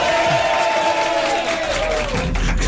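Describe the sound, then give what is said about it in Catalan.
A crowd applauds and cheers steadily for a female president arriving to open an inauguration, a dense wash of clapping with whoops and a sustained shouted tone running through it, loud, with no speech. “Aplaudiments per la presidenta.”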